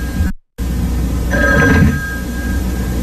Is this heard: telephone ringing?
yes